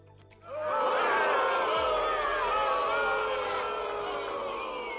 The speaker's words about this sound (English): these crowds are getting rowdier. These crowds are going to get violent soon.